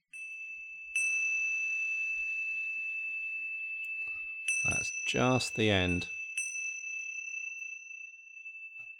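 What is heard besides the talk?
meditation bell ringing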